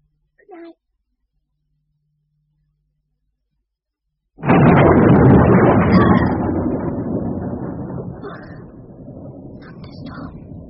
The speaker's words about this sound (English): Thunderstorm. If it doesn't stop, I shall be able to go out tomorrow. The rain's come because it knew I didn't want it.